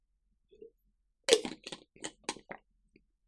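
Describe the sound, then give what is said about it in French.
A small sip of Play Endurance drink: a soft first sound, then a series of short, crackly slurping bursts in an uneven rhythm, moderately loud, with no talking. “Je prends une petite gorgée de Play Endurance et j'enchaîne.”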